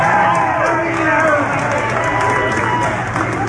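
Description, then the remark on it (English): A large crowd claps and cheers loudly and steadily, with many voices shouting together in a continuous, dense roar throughout. “Yeah, see, they was a clapping because he said, we won't work.”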